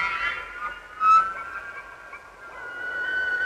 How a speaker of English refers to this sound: The wild bugling of the Olympic elk. A large bull elk tosses its head back. Soon the mountains echo and re-echo.